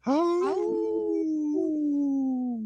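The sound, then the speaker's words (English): A person imitates a wolf howl, a single sustained wavering tone that starts with a rough, rising onset and then holds a long, slightly sliding note, fairly loud. “Ooh, that was a weird howl from me. We were in harmony there.”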